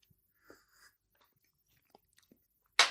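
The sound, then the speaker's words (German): Someone chews cake, with quiet, sparse smacks and soft mouth clicks spaced irregularly, then a sudden louder burst of noise cuts in at the very end. “Ah, so ein leckerer Kuchen.”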